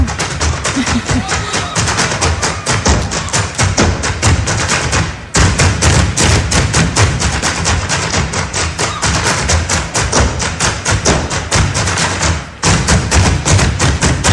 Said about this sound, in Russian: Как девки хорошо стучат ногами? Я думаю, это не вредно для них, как ты считаешь?